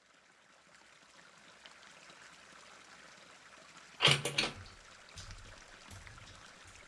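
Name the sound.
shower water running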